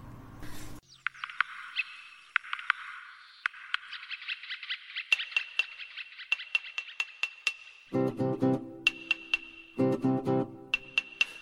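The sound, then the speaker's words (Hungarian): A playful instrumental intro to a children's song about a woodpecker and a worm: high, sustained tones with crisp, irregular tapping clicks, then fuller bursts of chords joining in near the end. No one sings or speaks. “Most hallgassunk meg egy dalt a harkályról és a féregről.”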